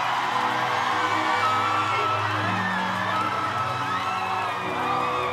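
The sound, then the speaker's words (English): A loud, sustained crowd roar with cheering, whoops and high yells layered over each other, staying intense and steady for several seconds without a break, as the crowd answers a call for all the lovers of Jesus to make some noise. “All the lovers of Jesus, make some noise.”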